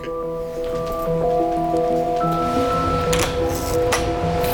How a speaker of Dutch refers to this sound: Oké. Wat hoor ik hier nu? Je hoort hier het geluid van de ventilatoren van de computers. En het geluid van de koelmachines die de koude lucht maken, zeg maar.